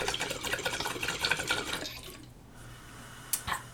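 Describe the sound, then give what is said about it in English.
Steady bubbling and gurgling of water in a water pipe, larger than the person using it, as someone inhales, for about two seconds, then it falls quiet, followed by a short sharp knock near the end. No one speaks. “Your water pipe is bigger than you.”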